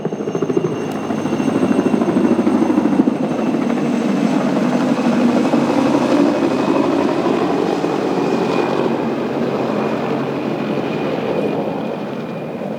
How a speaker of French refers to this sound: hélicoptère militaire qui vient de passer au-dessus de nous.